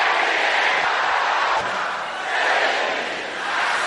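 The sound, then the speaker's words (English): A large audience shouts a prayer declaration together in a loud, sustained roar of many voices, with a brief dip in volume midway before surging again. “Can I hear you saying that loud and clear?”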